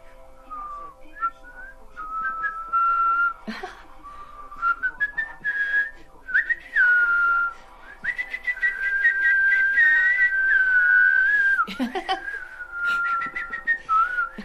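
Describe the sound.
A person whistles in imitation of birdsong, a steady run of warbling, trilled notes with quick pitch slides and chirps, moderately loud and unaccompanied by talk.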